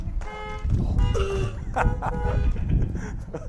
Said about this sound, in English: Come on, that ought to get some honking out there. One honk!